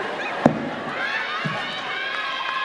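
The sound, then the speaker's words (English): A group of voices yells together in a loud, sustained, overlapping clamor, with a sharp knock near the start and a duller thump about a second later. “All right, y'all sound, you sound like a moped that won't start when y'all yell together.”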